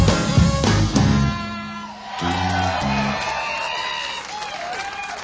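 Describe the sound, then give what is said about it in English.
A live crowd yells and cheers loudly over band music, with whoops and shouted voices rising from the audience throughout. “Why do people always yell that?”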